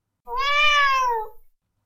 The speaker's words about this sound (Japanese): 猫の鳴き声がした。